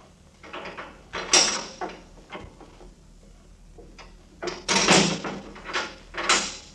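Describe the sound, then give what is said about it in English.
A door opens with a string of wooden creaks, rattles and clunks, the loudest bursts near the end, with no one speaking. “She is just outside the door.”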